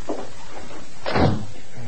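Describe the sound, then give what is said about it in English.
A door swings shut with a single solid thud around the middle, preceded by a faint creak or shuffle, then a low hum lingers afterward. “I heard the door close.”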